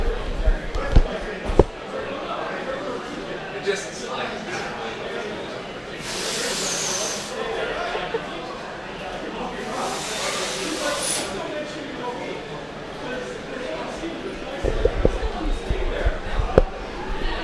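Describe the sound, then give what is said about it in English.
A door is handled: a couple of heavy thumps and clunks at the start and end, with hissing, scraping bursts in between against a low background murmur. “That door is complicated sometimes.”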